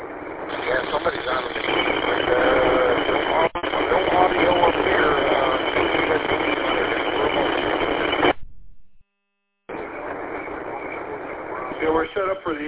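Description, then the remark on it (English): Unsquelched HF radio noise from a receiver with no squelch, heard during a radio net on Sunday night at 5 o'clock: a steady, loud, band-limited hiss laced with warbling tones and garbled voice-like fragments. It cuts out briefly near the end, then the static resumes. “Sunday night at 5 o'clock, so that's why you're hearing what you're hearing at HF. There's no squelch, so you just gotta be patient and see what we're gonna do here.”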